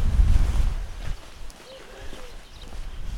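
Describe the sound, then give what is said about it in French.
Wind buffets the microphone in a strong low rumble beside a railway line, then eases into a softer, steady outdoor rush with faint chirps; no one speaks. “Et je me remets à suivre la voie ferrée. Et le vent souffle.”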